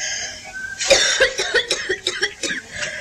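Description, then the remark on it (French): A fit of coughing from a patient with a fever at a doctor's consultation: a string of about seven or eight short, harsh coughs in quick succession, fairly loud, with no talking around them. “La toux, j'ai la fièvre, une espèce de lassitude de courbature.”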